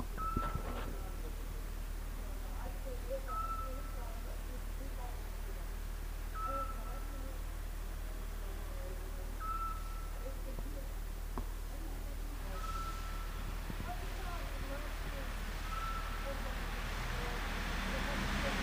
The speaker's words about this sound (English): One thing about this city that I'm curious about, I don't know if you can hear it, but there's a beeping noise that happens every couple of seconds. I'm going to see if we can actually pick this up.